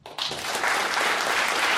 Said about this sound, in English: All in favor of the right to go barefoot, would you applaud?